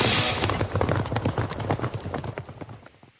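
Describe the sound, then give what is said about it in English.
Galloping racehorse hooves pound in a fast, rolling rhythm, loud over a low rumble, the beats thinning and fading slightly toward the end. “We specialize in thundering hooves, fist pumping, and boosting your bankroll with robust weekly promotions”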